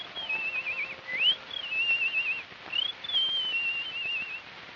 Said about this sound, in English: Listen to those bluebirds singing. Isn't that sweet?